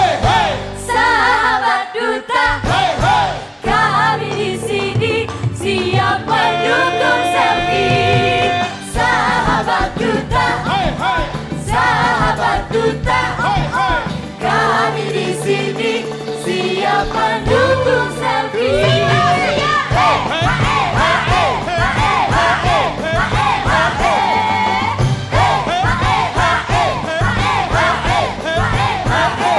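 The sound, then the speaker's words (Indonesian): A loud dangdut talent show crowd cheers and shouts continuously as a contestant receives standing ovations from six dangdut judges, many voices yelling and whooping together in a dense, energetic roar that barely lets up, with a few sharper cries rising above it. “Selamat kita pun ikut teriak.”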